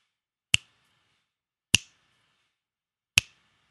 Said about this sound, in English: You just turn to the west, think of hellfire, and snap your fingers 3 times.